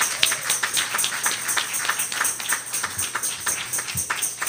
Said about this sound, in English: Let's give all our children a hand.